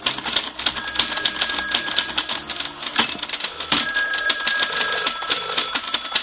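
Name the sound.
typewriter typing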